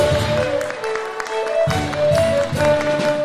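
An audience applauds the fiddle player, clapping steadily and continuously while sustained fiddle notes ring underneath; the applause forms a dense, crackling wash at moderate loudness throughout.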